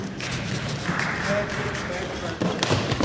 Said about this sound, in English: You hear that thump and then the applause from the guys there? That's me falling right on my backside.